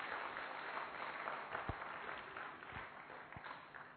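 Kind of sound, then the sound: crowd, audience clapping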